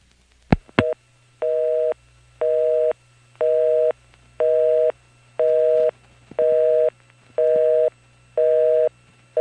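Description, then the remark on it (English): A couple of sharp clicks, then a clean electronic busy signal from a reset Number 1 ESS electronic telephone exchange in a downtown building: steady on-off tone bursts at an even pace, about two per second, with a quiet background and no selector noise or mechanical clatter. “I didn't hang up long enough, but this time, instead of resetting the Raleigh step, I've reset the downtown ESS. You can tell because there's no selector noise in the background.”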